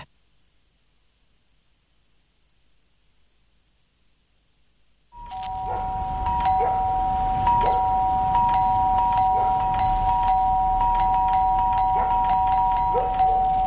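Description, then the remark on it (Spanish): In a Sodimac cyber sale advertisement, after about five seconds of silence, a doorbell sounds: a bright, steady electronic tone that keeps ringing to the end, with a series of soft tapping clicks scattered through it. No one speaks. “El cyber de Sodimac está tocando a tu puerta y tu casa lo sabe.”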